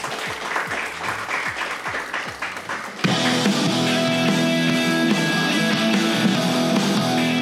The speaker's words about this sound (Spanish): Un aplauso